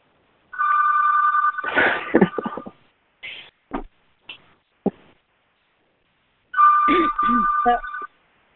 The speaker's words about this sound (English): It's the other phone, but it rings in here, too.